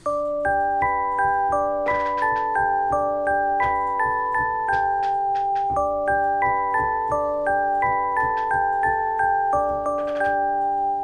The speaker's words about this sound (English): Okay, 32, music box.